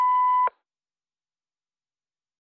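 signal or alarm, answering machine beep

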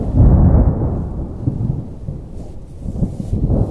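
nature, thunder

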